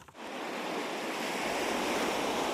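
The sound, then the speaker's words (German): Sea waves break onto a beach in Spain in a steady, broad wash of surf that swells slightly louder partway through, with no voices, only continuous rushing water. “Auch Spanier zieht es in diesen Tagen aus den großen Städten an die Strände.”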